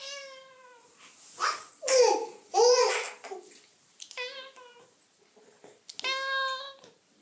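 A cat being chased meows repeatedly in agitated, drawn-out cries, some rising and wavering, with short pauses between calls and a few louder, harsher yowls near the start.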